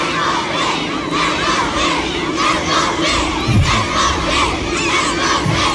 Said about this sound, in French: Accueillis comme des rockstars à la mi-journée avec des centaines de fans, parfois aux couleurs de l'équipe de France, en train de crier les noms des Bleus. Enfin, surtout celui de...